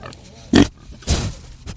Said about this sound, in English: Today, there are 6 pigs in Phil's 15-by-90-foot pen.